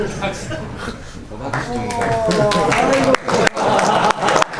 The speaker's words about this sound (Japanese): すごい注目されて拍手で迎えるんです